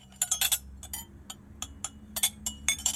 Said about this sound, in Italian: Shh, fai piano con i piatti.